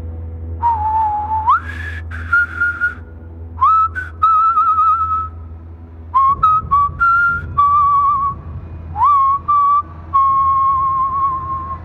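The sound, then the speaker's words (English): A person whistles a slow, wavering tune in clear, sustained notes with upward slides between phrases, steady, over a low constant hum, with short pauses between phrases. “Then the whistling stopped.”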